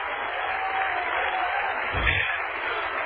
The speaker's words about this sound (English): Clap your hands and shout with me. Praise God.